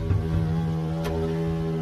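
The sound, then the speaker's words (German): A steady insect drone with a strong low hum and layered overtones, holding constant throughout with a slight flutter, a hornet buzzing from its wings beating at very high frequency. “Auch Hummeln, Wespen und Hornissen brummen, summen.”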